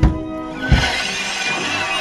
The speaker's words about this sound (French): Le cri de la mandragore est mortel pour quiconque l'entend.